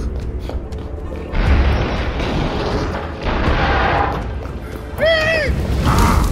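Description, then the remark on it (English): Heavy, rumbling booms of a flaming catapult attack and explosions, three big blasts arriving a couple of seconds apart, loud, with a brief wailing tone over the last one. “Flaming catapult!”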